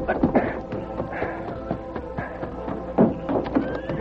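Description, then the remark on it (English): A horse whinnies loudly while its hooves clop in an uneven, shuffling rhythm, with a second higher neigh rising near the end, as a man takes the horse out to head for a ranch. “Then he hurried out the back door, got his horse, and headed for the ranch.”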